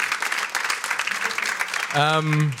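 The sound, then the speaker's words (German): A crowd claps steadily in a large hall, a dense, even patter of many hands welcoming a co-producer, and a loud voice calls out over the applause near the end. “Das ist dein Applaus.”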